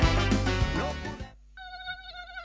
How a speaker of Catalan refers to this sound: Compte, el mosquit tigre ja arriba. Els ajuntaments portem a terme programes per controlar-lo, però cal que a casa teva tu també hi participis.